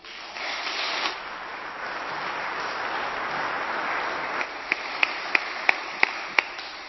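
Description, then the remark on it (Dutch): An audience at a church service applauds for the combo, the band, a dense, steady patter of clapping that thins out near the end into about six sharp, isolated claps. “En ik wil eigenlijk ook wel even een applaus vragen voor het combo.”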